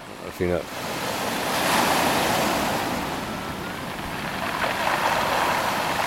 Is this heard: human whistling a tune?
no